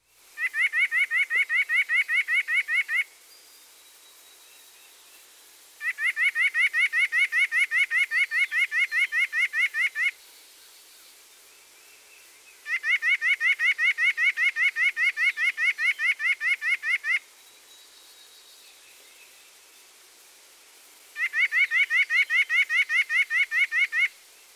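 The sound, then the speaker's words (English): A bird sings four loud, rapid trills, each lasting a few seconds and separated by short pauses, with no other sounds in between. “Next the song.”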